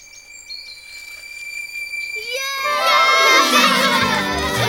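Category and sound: crowd, children shouting loudly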